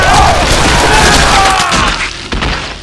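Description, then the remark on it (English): A rapid barrage of gunshots as Matt Bodine empties two .44 revolvers from a saloon door into a group of gunmen, loud booming blasts crowding together into a dense, crashing roar that eases slightly toward the end. “Matt pulled his other .44, stepped to the door, and emptied both .44s into the knot of gunslicks.”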